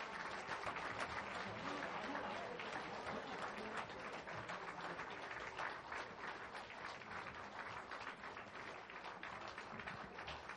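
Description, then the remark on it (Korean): A crowd applauds steadily for a parish district choir after its song at a 2014 Thanksgiving Sunday parish choir contest, with dense, continuous clapping that stays loud and even for about ten seconds, with no voices standing out. “다시 한번 씨앗송 불러주신 우리 이교구에게 큰 박수 부탁드리겠습니다.”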